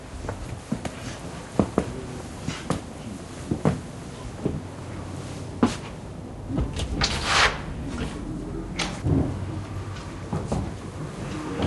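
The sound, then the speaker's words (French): The door of an abandoned house creaks and clatters open amid a series of sharp knocks, bumps and shuffling footsteps, with a brief scraping rattle midway, as a sheriff goes to the door and enters. “On va à la porte.”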